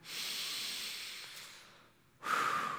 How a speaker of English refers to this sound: Would you put your arms out with your palms up, close your eyes, just a posture of surrender. Take a deep breath.